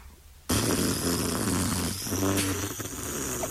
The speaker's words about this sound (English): You're breathing through your nose. Right. Then out through your lips.